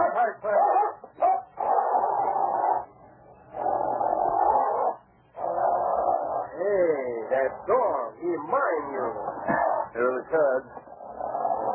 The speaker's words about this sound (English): Don't go near that dog. He won't hurt me. He knows I'm not afraid of him. Get back, Lobo.